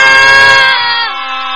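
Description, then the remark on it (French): A group of children shout "Au revoir!" in unison, one loud, drawn-out collective shout that holds for over a second before easing off slightly. “Voilà, ben, écoutez, on les entend encore crier, ils sont tellement en forme, ces mille pattes, voilà.”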